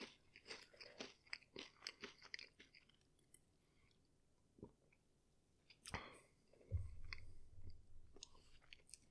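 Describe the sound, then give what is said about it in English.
Crisp crunching of potato chips in a rapid burst of bites, a quieter lull, then another loud crunch followed by muffled, low chewing sounds. “Sorry, have a few more chips.”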